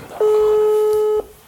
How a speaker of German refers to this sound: Es klingelt.